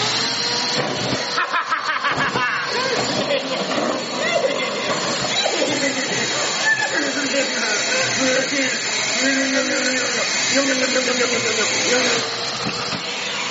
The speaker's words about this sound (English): It's a vacuum and you're going to suck all this up.